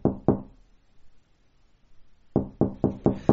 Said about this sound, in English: The rap on the door makes me jump.